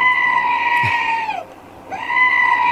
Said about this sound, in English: That's just like someone screaming into the abyss? Yeah, kind of.